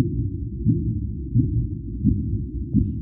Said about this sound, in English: You know, that yesterday there was this big scientific story about how the universe sounds like. And if you play the sound of the gravitational wave, actually sounds very much like the, one of these clicks of the Minke Whale.